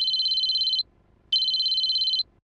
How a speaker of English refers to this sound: Andy took out his cell phone and called Grace.